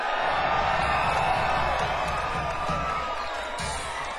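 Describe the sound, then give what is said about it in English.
An audience gives a golf clap during band introductions at a live music show, a dense, even wash of applause and cheers from a crowd that holds at a constant level without any pause. “Golf clap for everybody, golf clap. Excellent, golf clap.”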